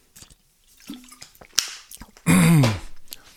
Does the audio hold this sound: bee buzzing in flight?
no